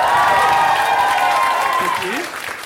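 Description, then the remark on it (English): An audience claps loudly and steadily, a dense wash of applause with a few high whoops and cheers rising above it, easing off slightly toward the end. “Give me a round of applause if you've ever heard Do Go On before.”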